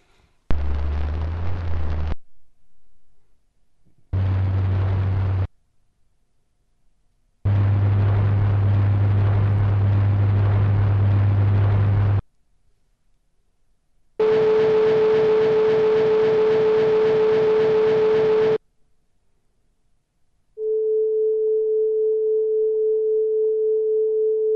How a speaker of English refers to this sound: That's a pretty pure tone. Right. Now, what you're hearing there is a recording we believe was made actually by the vibrations of a tuning fork directly. That is, we're not picking something up with a membrane, something that's gone through the air.